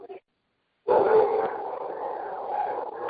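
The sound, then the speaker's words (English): Dogs barking and yowling in the background of an online call: a quick yip, a brief pause, then a loud, drawn-out run of overlapping dog cries that carries steadily to the end, with no talking. “Whoever has dogs in the background, if you could mute yourself, that would be wonderful.”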